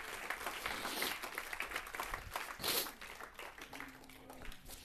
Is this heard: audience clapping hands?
yes